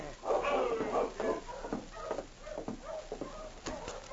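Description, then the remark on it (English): Several sled dogs of a dog team bark, yip and whine together in a busy, overlapping chorus, steady for a few seconds with no talking. “He started as he heard the sound of a dog team.”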